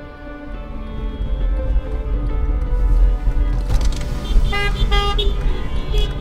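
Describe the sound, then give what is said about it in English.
Several car horns honk from a caravan of almost 100 cars in Little Village over a steady low rumble of idling engines, overlapping blasts rising and falling with no clear rhythm, loud. “Let's make some noise on your horn.”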